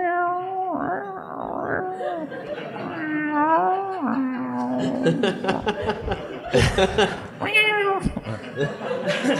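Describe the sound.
A person's voice imitates a dying cat's yowl: strained, drawn-out wails with wobbling pitch, repeated several times and breaking into rough, breathy bursts near the end.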